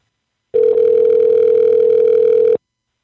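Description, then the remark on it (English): A phone call to a car dealer rings unanswered: one steady, buzzy ringback tone lasting about two seconds, loud as if heard through the receiver, with nothing else around it. “This dealer's not even answering their damn phone.”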